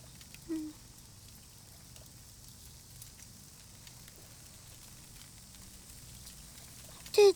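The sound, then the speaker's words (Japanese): Burning charcoal, with the fire spread up to the topmost pieces, crackles softly, with scattered faint pops and ticks over a low steady hiss, plus a brief louder squeak near the start and again at the very end. “一番上の炭にもいつの間にか火が回ってる。音も。”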